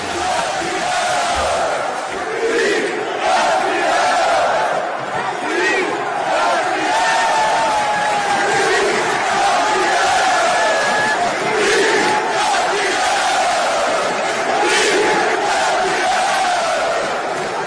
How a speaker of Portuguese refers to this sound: Torcida Tricolor.